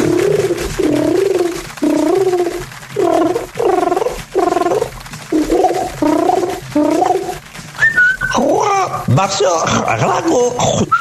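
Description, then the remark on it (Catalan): A parrot squawks, loud and insistent: a string of short warbling calls, then a burst of harsh, overlapping screeches at the end. “I ara, amb tots vostès, un locutor que sempre dona de menjar el seu lloro abans de començar el programa.”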